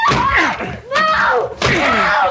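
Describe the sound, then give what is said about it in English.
Three loud blows strike a door in quick succession, each impact followed by a ringing, creaking crash of straining wood as the door is forced and broken down. “The door! I can't budge it! We will break it down!”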